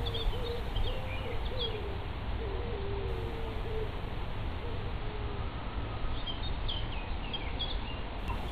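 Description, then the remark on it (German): Forest birds chirp and call steadily throughout beside a forest path on a hill, high twitters mixed with lower hooting notes, set against a constant soft ambient rumble with no talking. “Schritt für Schritt nimmst du immer mehr das Rauschen der Blätter und den Gesang der Vögel wahr.”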